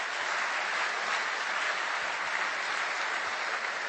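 Steady audience applause, a dense wash of many hands clapping at an even level throughout, with no voices breaking through.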